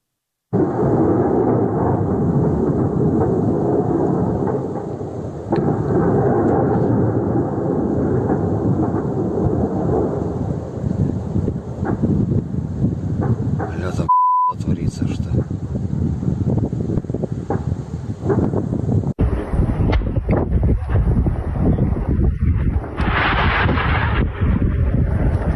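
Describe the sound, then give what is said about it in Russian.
Ammunition depot explosions detonating in Berdyansk rumble almost continuously in a heavy, booming roar with wind buffeting the microphone; after a brief break, sharper cracks and bangs punctuate the rumble. “давайте посмотрим, как детонировало вчера в Бердянске.”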